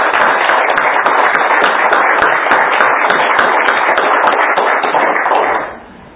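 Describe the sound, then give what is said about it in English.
A church audience claps hands for the Lord in a loud, dense burst of applause that holds steady for several seconds before quickly fading out near the end. “Let's give the Lord another hand clap.”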